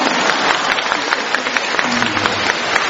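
A crowd applauds steadily for the whole stretch, a dense wash of many overlapping claps at even loudness, with a faint low tone briefly audible under it.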